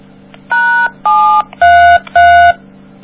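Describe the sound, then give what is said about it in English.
Four telephone keypad dialing tones beep in a steady, even sequence, each a short clear electronic burst, over a low background hum with no talking, as a bad number is dialed on a three-way call to hear the error message. “You want me to call the Sprint thing again to hear what they say, or you want just a bad number and see what the message is.”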